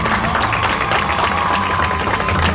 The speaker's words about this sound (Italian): Un applauso al pubblico di oggi, eccoci qua.